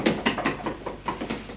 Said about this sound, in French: Il va au bureau. Il ouvre tout doucement un tiroir.